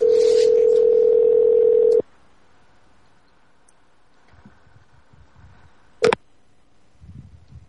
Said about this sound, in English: Nah, busy. Busy because it came from the same number from Skype.